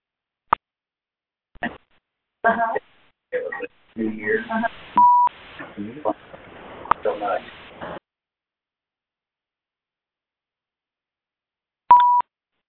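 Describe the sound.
A few short, clear phone keypad beeps sound at the start, middle and end as a phone line is unmuted so callers can comment or ask questions, with muffled, indistinct voices and line noise in between.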